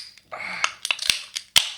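Glasses clink together in a toast, several sharp, bright taps in an irregular run, a couple of them leaving a brief high ring, with no talking.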